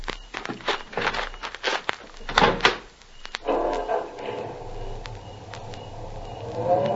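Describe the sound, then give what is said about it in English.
Several sharp clunks and thuds of car doors shutting at night, followed by a car engine turning over and settling into a steady running rumble before driving into town. “Oh, this is my car. Would you ride into town with me?”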